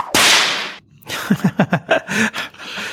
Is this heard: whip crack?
yes